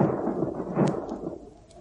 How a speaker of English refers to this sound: I hope it never rains. It does feel like thunder.